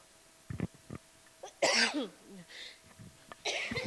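A person coughs several times close to the microphone: a few short, muffled coughs, then a louder, harsh burst, followed by quieter rasps and another rough cough at the end.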